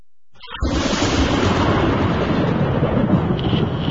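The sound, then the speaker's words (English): A loud roll of thunder bursts in after a brief moment of silence, then keeps rumbling heavily and continuously with no voices present. “And I heard, as it were, the noise of thunder.”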